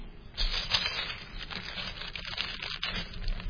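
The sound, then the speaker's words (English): Soft rustling and crinkling of a curled paper sheet being uncurled and handled while reading from it, with irregular crackles and brushing sounds over a few seconds and no voices. “Okay, and so, you know, my paper's curled under here. Can't read it all.”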